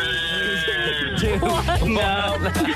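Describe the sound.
During a timed song-guessing game, a voice imitates a game-show buzzer with one loud, sustained nasal drone lasting nearly three seconds, its pitch wobbling slightly as it goes, like a bleating buzz.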